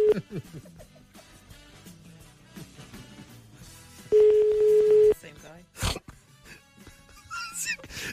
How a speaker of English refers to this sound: Oh, it's ringing again.